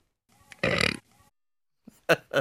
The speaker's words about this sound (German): Was ist die Auflösung? Hund. Es war ein Hund. Wirklich? Ja, so also ein rülpsender Hund.